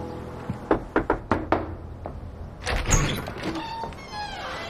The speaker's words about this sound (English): Later, at Heidi's house, David knocks on the door.